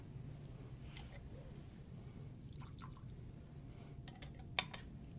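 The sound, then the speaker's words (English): A small amount of water trickles and drips into a cup of wine during Christian offertory prayers over bread and wine, with a few light clinks of metal or glass against a low, steady hum. “By the mystery of this water and this wine, may we come to share in the divinity of Christ, who humbled himself to share in our humanity.”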